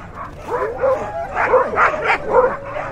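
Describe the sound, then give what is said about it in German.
A noisy chorus of many sled dogs in private kennels barking, yipping and howling at once as tourists harness them to sleds for rides through the snow, overlapping in a continuous excited din that rises and falls for the whole stretch, with no voices. “In den privaten Hundezwingern spannen Touristen unter Anleitung die Tiere vor Schlitten, in denen sie dann warm eingepackt stundenlang durch die Schneewüste fahren.”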